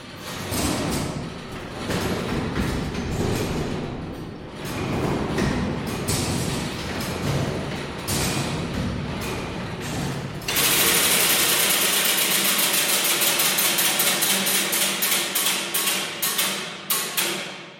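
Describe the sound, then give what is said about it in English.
The works of Big Ben's 181-year-old mechanical clock, heard from inside the clock itself, churn steadily: dense grinding and whirring gears, then a louder passage of sharp, regular ratcheting clicks over a continuous mechanical rumble. No voices. “But this is what it sounds like when you're actually inside the clock itself.”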